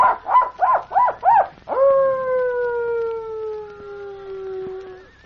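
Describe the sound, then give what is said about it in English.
A person imitates a coyote as a signal: four quick rising yips, then one long, loud howl that slowly slides downward and fades out after about three seconds, with no other talking. “Coyote signal?”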